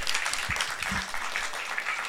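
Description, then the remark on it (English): A crowd applauds steadily, many hands clapping in a dense, continuous patter that stays fairly loud throughout with no voices standing out. “Big round of applause.”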